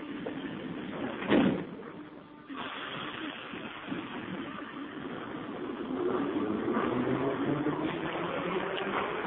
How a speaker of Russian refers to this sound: осторожность, двери закрываются. Следующая станция – отсоединение.